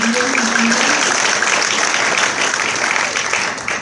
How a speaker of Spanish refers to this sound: Vale, muchas gracias. Un aplauso, por favor, para...